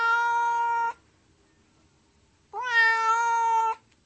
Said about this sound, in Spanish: Sí, parece el maullido de un gato. Otra vez y más insistente aún. ¿Por qué insiste tanto?